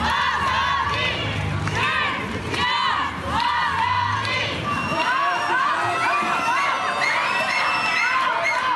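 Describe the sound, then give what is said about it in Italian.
A loud, dense crowd at an unauthorized protest in Zurich, on the sidelines of events by the feminist collective Strike Zurich for International Women's Day, shouting and yelling in overlapping voices as police intervene to break it up, with raised cries rising above a constant roar that stays intense for the whole stretch. “E come avete sentito, la polizia è intervenuta questo pomeriggio per interrompere una manifestazione non autorizzata a margine degli eventi organizzati dal collettivo femminista Strike Zurich in occasione della giornata internazionale della donna”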